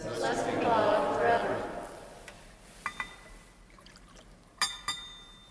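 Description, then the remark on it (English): Water is poured into wine in a chalice in a soft trickle lasting about two seconds, followed by a few light metallic clinks spaced apart in otherwise quiet surroundings. “By the mystery of this water and wine, we come to share in the divinity of Christ, who humbled himself to share in our humanity.”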